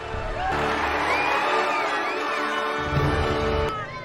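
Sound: audience applause and cheering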